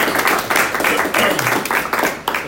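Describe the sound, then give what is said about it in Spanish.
An audience at an event at Casa de Satoshi applauds steadily for a couple of seconds as a panelist is introduced, a dense wash of many hands clapping, with a voice faintly audible underneath. “Un aplauso.”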